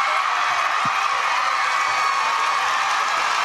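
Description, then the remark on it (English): A large crowd roars and cheers wildly, a dense, sustained wall of shouting and whooping that stays loud and steady throughout, with no single voice standing out. “This is when the crowd went crazy.”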